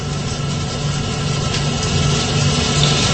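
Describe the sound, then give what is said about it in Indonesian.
A grinding machine, used to grind coarse materials into fine ones, runs steadily and fairly loud with no one there, a continuous mechanical drone with a low hum and a broad rushing noise, unchanging throughout with no one speaking. “Yang menyala itu adalah mesin penggiling yang biasa menggiling bahan-bahan yang masih kasar menjadi halus.”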